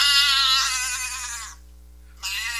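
A goat bleats loudly in a YouTube video, a long wavering cry that trails off, followed after a short pause by another bleat starting abruptly.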